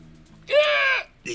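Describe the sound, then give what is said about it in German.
A parrot lets out a loud, harsh squawk lasting about half a second, followed shortly by a brief second squawk, with no voices. “Ich besuchte den Mann mit dem fußballbegeisterten Papagei.”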